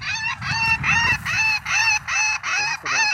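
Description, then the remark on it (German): Crow calls played back through the loudspeaker of a bird-scaring box whose random generator plays different calls: a rapid series of six or seven harsh, repeated caws in a steady rhythm, loud, with a low rumble of background noise underneath. “Krähenkiste, oder? Zufallsgenerator spielt jetzt verschiedene Rufe ab.”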